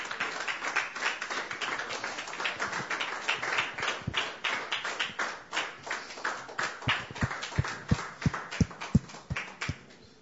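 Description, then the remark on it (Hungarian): A crowd claps for the mothers in a dense burst of applause that gradually thins out, ending with a handful of separate, sharper claps toward the end. “Úgyhogy adjunk egy nagy tapsot az anyukáknak, jó?”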